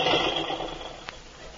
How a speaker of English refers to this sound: I accidentally dropped this book on how to operate a boat on the button there, and the engine started.